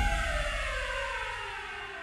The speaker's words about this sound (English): Down he sank into an endless black, occasionally broken by the momentary images of Jaime Weiss, soaked in Torrio's own black blood, being dragged away by his men, and the deafening arrival of police cars.